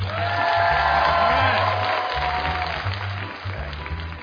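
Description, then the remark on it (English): A crowd applauds steadily to show how many Democrats are present, a dense wash of clapping with scattered cheers and whoops, while a low humming voice or drone rumbles underneath throughout. “So by your applause, how many Democrats do we have tonight?”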